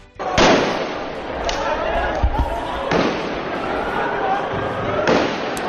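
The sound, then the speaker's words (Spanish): Several sharp bangs of firecrackers thrown by radicals at a night-time street protest, going off at intervals over a dense, noisy crowd roar, with shouting voices filling the background of the outdoor street scene. “transcurrió con normalidad y sin incidentes hasta las 10 de la noche, cuando los radicales ocuparon las primeras filas y comenzaron a lanzar petardos y a zarandear las vallas de separación.”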